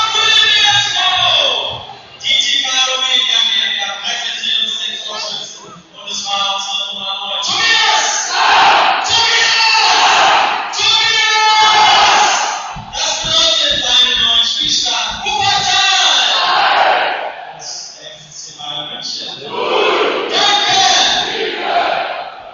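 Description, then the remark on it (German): A stadium crowd roars and cheers after Tobi Damm's headed goal makes it 2-0, a loud sustained surge of many voices with chanting swells and shouts rising and falling throughout, no commentary over it. “Ja, da merkt man, dass die Zuschauer heiß drauf waren, endlich mal hier wieder Tore zu sehen.”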